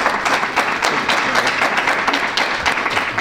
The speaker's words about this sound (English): These five have embraced this in support of our kids and support of our school district. So how about a nice round of applause for our board members?